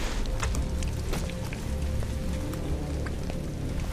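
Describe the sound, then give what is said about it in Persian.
Steady heavy rain from a tropical storm pours down, with loud individual drops smacking onto a tiny dwarf gecko in irregular bursts over a dense, continuous wash of water noise. “قطره‌های بارون مثل بمب روی اون میفته.”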